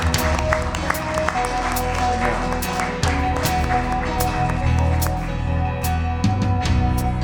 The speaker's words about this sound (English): Keep on clapping.